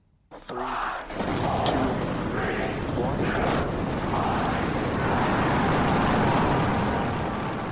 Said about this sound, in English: With a mighty rumble, the giant rocket lifted clear of its Texan launch complex, all 33 engines firing at full power.